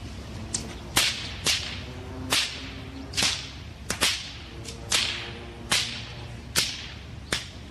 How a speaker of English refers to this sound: It shows a couple of guys with bullwhips cracking them in a downtown park on the river, just a few blocks upstream from City Hall.